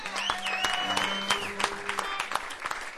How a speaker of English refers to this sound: We don't make a lot of money, but we do it because we love it, so give us the claps, you know?